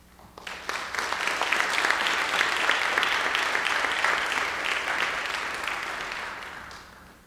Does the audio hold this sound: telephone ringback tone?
no